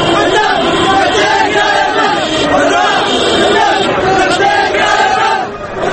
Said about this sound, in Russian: Тысячи манифестантов выкрикивают антиправительственные лозунги. В последние недели такое скандирование можно было услышать в Тунисе, затем в Египте, теперь пришла очередь Йемена.